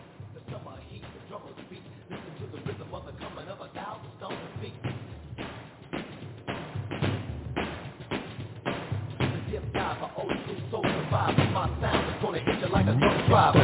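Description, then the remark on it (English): Feet stomp in a steady, repeated rhythm, heavy low thuds landing one after another and growing louder toward the end, with some voices faintly mixed in beneath the beat. “We're going to go ahead and stomp for you.”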